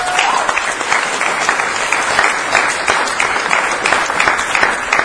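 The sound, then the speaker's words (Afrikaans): An audience applauds for the Lord steadily for about five seconds, a dense, even wash of many hands clapping at a fairly loud level with no voices standing out. “Geef vir die Here 'n groot hande klap.”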